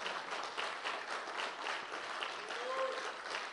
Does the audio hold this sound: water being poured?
no